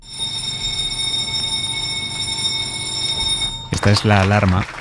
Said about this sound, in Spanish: Esta es la alarma que marca la hora a la que empieza la reunión de primera en El País, que es la reunión en la que se decide de qué temas va el periódico en la portada del día siguiente.